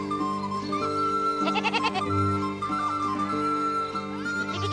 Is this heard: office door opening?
no